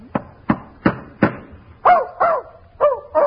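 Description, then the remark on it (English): A dog named Fletcher, kept in a hotel room, barks about eight times in steady succession, loud: four short, sharp barks, then several higher, more drawn-out yelping barks. No one speaks. “Burke, the manager of the hotel, finds that dog in here, you're going to be in trouble.”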